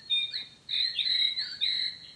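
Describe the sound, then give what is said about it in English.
A bird clock chimes 8 o'clock with a short burst of recorded birdsong, bright warbling whistles in two or three phrases, clear over a quiet background. “My bird clock.”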